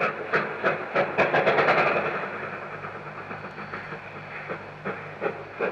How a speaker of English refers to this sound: that recording of the train rushing up to Waiuru over the level crossing, and you hear the whistle and the echo coming back off the hills, did you think that that was a particularly good one you caught then?